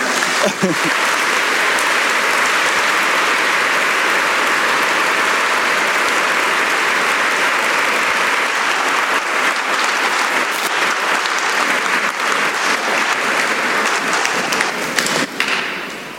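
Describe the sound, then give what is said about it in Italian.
Sustained applause from an audience, a dense, steady wash of clapping that fills the whole stretch at a fairly loud level before tapering slightly at the very end. “Un applauso.”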